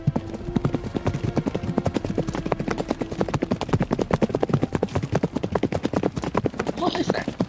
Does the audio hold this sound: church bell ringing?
no